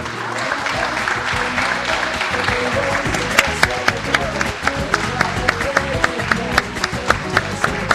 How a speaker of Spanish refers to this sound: Dejé un espacio para que me aplaudan, así.